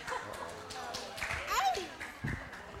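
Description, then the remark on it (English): Scattered applause from an audience, a loose patter of irregular claps lasting a few seconds, with murmuring voices and a brief high-pitched squeal partway through. “You're not supposed to applaud yet.”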